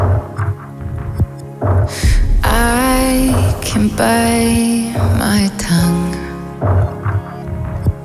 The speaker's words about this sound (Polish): Zapraszamy wszystkich słuchaczy do wysłuchania piosenki i wracamy za moment.